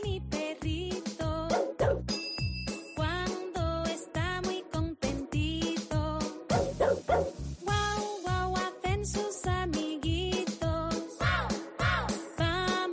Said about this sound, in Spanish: Hombre, si solo hicieran guau guau los perros, pues sería mucho más simpático como esta cancioncita, pero no.